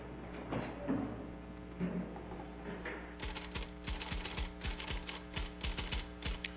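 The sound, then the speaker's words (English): Rapid mechanical typewriter keystrokes clack in a steady, slightly uneven rhythm, moderately loud, as a woman types a letter for Dr. Wheaton in an office, with a brief sliding, rustling sound at the start before the typing settles in. “As Mrs. Breckenridge continues typing a letter for Dr. Wheaton, she doesn't even look up”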